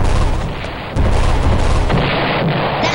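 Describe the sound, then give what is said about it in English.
A plasma cannon fires at police in a loud, dense barrage of booming, crackling blasts, nearly continuous, with a brief dip before the firing surges again. No one speaks. “Quick, Spock, do you have your plasma cannon? Why, yes. Shoot the cops.”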